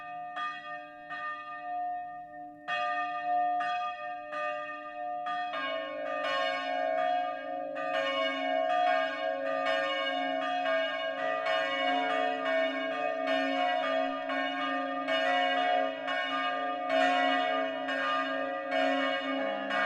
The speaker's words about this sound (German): Es ist 12 Uhr. Das Mittagsläuten kommt heute von der evangelischen St. Georgskirche in Bertholdsdorf, einem Ortsteil der mittelfränkischen Stadt Winsbach.